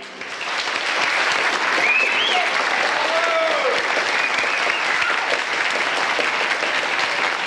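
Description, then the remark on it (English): A large audience stands and breaks into loud, sustained applause, a standing ovation after a stage performance: a dense wall of clapping that swells in quickly and holds steady, with a few faint whistles or cheers rising above it. “They stood up and gave us a standing ovation.”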